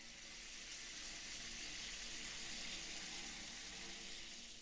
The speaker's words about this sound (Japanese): よし、パパの体が雪男みたいに泡で真っ白になったから、シャワーで流していきます。